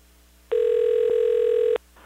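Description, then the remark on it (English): A phone call placed to a Bell Canada customer ringing through the line: one steady, buzzy ring tone lasting just over a second, loud, with no voices. “But instead of going on a date with a Canadian, I would just make a phone call to them and try and trick them out of all the words that I needed.”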